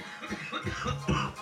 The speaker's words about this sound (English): And I'm coughing because of the dab. Yeah, we smoking on that slab extracts.